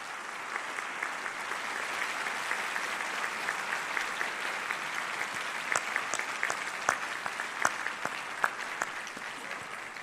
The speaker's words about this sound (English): Graduates, before we celebrate your accomplishments and talk about your road ahead, I invite you to take a moment to thank your friends and family with a round of applause.